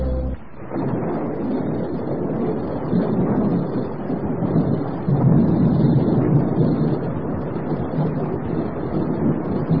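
Steady heavy rain pours down with a deep, continuous rumble of thunder rolling underneath, swelling louder midway through. No voices, just the dense wash of a storm.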